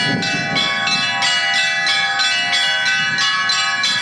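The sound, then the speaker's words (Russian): Church bells of a mobile belfry brought from Khabarovsk peal steadily and loudly during a religious procession in a Russian Far East village, with repeated rhythmic strikes about every third of a second layered over long ringing overtones, filling the whole clip without any voices. “Людей сопровождает передвижная звонница. Ее привезли из Хабаровска. Своих колоколов, как и храма, в селе нет.”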